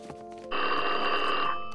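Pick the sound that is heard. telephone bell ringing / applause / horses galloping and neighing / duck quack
telephone bell ringing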